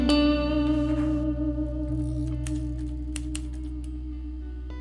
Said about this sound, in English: Typewriter keys, a rhythm I find. Each click and clack, a story to unfold.